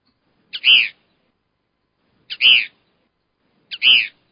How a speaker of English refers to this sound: We got the kingbird. Kingbird. This one has just one little screech here.